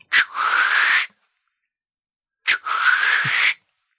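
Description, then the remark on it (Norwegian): A voice imitates a lekking game bird's call, as done to lure birds down to the lek: two loud, harsh, breathy hissing bursts, each about a second long, separated by a pause of over a second, with no other talk. “Og den kan du etterligne hvis du vil lokke ned fugl på leiken.”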